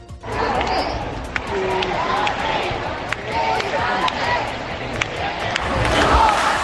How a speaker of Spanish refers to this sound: Con todo, los dirigentes del partido han salido a las puertas de Ferraz para unirse a esos miles de militantes al grito de Pedro, quédate.